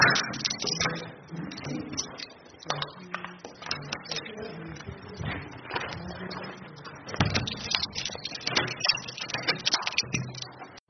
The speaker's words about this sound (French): Il ouvre et ferme la porte à clé de chez lui.